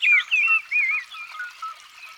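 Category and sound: bird, mistle thrush song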